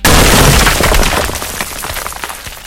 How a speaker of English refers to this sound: Boulder. Brick. Sound will get lower pitch the bigger the brick is. Road border. Boulder crashes into brick.